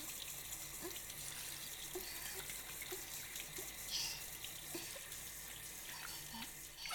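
Shower water runs in a steady hiss with faint splashes and drips scattered through it, rinsing something off, continuing without a break and with no voices.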